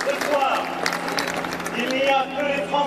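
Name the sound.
crowd cheering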